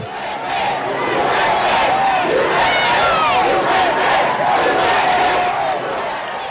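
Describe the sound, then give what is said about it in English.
A large crowd in South Carolina cheers and shouts continuously as the flag is removed from the Capitol grounds, a dense roar of many voices with whoops and yells rising over it, loud and sustained throughout. “I just want to play a short clip of the reaction from the crowd as the flag came down.”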